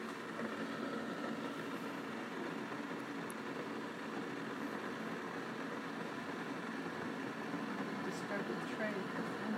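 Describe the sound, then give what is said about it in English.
A machine heating water makes a steady, kettle-like rushing hiss with a low rumble underneath, holding at an even level without pause for the whole stretch. “sound like a kettle, or like the water”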